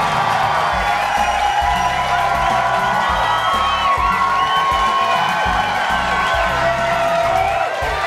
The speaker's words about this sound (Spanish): ¡Oh! Ese pelirrojo que está por ahí, él siempre, él grita igual. Su grito es igual siempre.